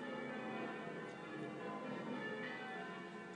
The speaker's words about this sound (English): They've actually warmed up a bit, but when they first started, it was really sort of... Brung, brung, brung. Yeah. It's like, yeah, how not to start your bell ringing? Yeah. Whoops, kind of thing.